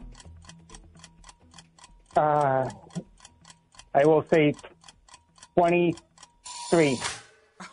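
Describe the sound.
A game timer ticks steadily, about twice a second, during a trivia question about CC Sabathia's Cleveland Indians debut, with sharp clicks running through the whole stretch while a few short bursts of speech break in over it.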